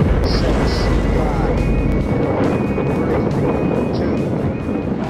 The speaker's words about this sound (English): In July 1969, a Saturn V launched the astronauts of Apollo 11 on their historic mission to land on the moon. Ignition sequence start.